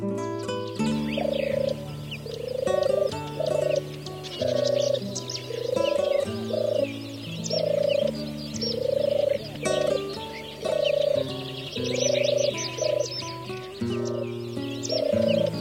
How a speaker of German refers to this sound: Das war die Turteltaube.